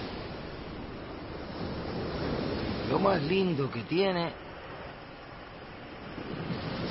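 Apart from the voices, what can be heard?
sea waves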